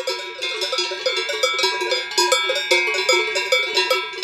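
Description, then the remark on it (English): Many heavy bells worn by cows on a verdant alpine pasture high above Lake Fallen in eastern Switzerland's Heidiland region clank and jangle together in an irregular, overlapping rhythm, metallic and bright, continuing steadily without any voices. “As I walked past the cows laden with heavy bells on a verdant alpine pasture high above Lake Fallen, I could understand why marketing professionals decided a few years ago to rename this corner of eastern Switzerland Heidiland.”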